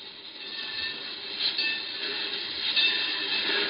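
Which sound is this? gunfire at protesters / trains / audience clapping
trains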